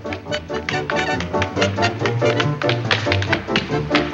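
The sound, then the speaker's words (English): Quick, crisp dancing taps clatter on a hard floor in a busy, steady rhythm, loud, as a man dancing hunches over and bounces one foot across the floor, with a low musical accompaniment humming underneath. “Jerry hunches over, bouncing one foot across the floor.”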